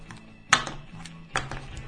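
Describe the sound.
A keyring is struck against a table twice, each hit a sharp metallic clatter followed by a few lighter jingling rattles, imitating the characteristic clink of coins being set down.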